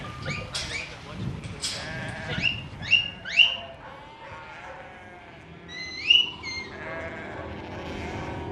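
Several sheep bleat in a loose, overlapping chorus of wavering calls, some loud, others quieter, with outdoor background noise throughout.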